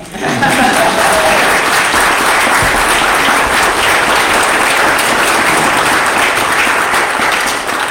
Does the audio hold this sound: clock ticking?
no